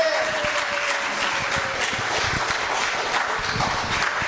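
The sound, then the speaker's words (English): A church audience claps steadily for several seconds, the dense patter of many hands going on without pause, with a faint tone drifting underneath early on. “Those people, all they ever do is clap.”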